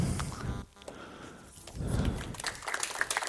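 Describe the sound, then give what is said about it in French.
An audience applauds with a steady, dense patter of many hands clapping. It dips briefly in the middle, then swells again toward the end, and no voices are heard. “Merci pour les applaudissements, mais j'attends surtout les questions.”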